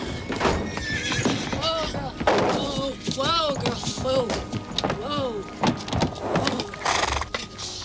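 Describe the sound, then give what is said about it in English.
A horse named Filigree whinnies and neighs several times in quick succession in a barn, fairly loud, its voice rising and falling in wavering bursts over a busy background of stable noise. “runs to a barn and the sound of the horse.”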